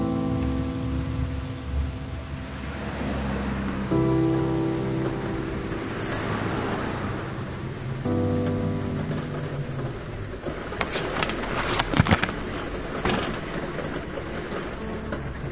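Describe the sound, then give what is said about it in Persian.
Steady rain hisses throughout, with a low sustained musical drone underneath and a few sharper, louder splashes or crackles near the end. No one speaks. “داره بارون میاد. میگم داره بارون میاد، نمیخوای ببینی؟”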